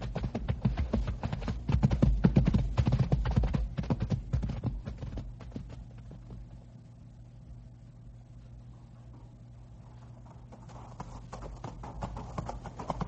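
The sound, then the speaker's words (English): Horses' hooves clip-clop over a rocky trail of loose rock in a dense, irregular patter, loudest at first, then thinning and fading before picking up again faintly near the end. “Trail plenty dangerous here from loose rock. You give horses head.”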